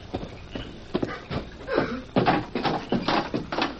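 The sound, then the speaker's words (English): An old wooden door of a house is pushed open, creaking and groaning amid a series of scraping thumps and knocks from its loose, rattling boards. “Get this door out of our way.”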